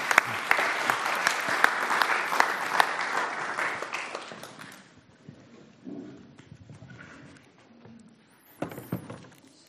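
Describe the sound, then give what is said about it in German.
A crowd claps for a little artist in a dense burst of applause for about five seconds, then it thins to scattered claps and faint murmurs, with a brief sharper flurry near the end. “Einen großen Applaus und einen kleinen Künstler.”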